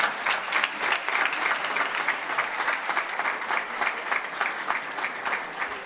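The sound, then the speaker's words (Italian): A crowd applauds a vice prefect being presented with a book, many hands clapping in a dense, continuous patter that holds at an even, fairly loud level throughout, with no voices breaking through. “Signor Viceprefetto, con un applauso, grazie.”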